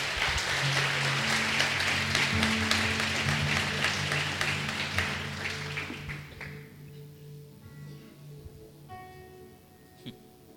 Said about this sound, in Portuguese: Amém. Bata uma salva de palmas para Jesus.